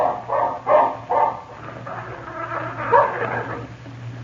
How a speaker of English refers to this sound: Razor, look. That dog is growling at Phil Furs.